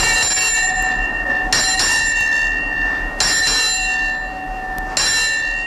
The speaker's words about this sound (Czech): Tak to je takový starý zvyk na lodi, že ten hlas zvonu všem na lodi oznámí, kolik je hodin.